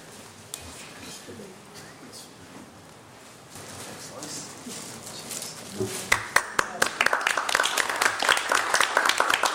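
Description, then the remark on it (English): Low crowd murmur and shuffling at a council meeting give way to an audience bursting into applause for the outgoing Mayor, Councillor McKittrick, many hands clapping in a dense, steady patter that grows louder over the final few seconds. “Before we give him a round of applause, we have a little gift to pass on.”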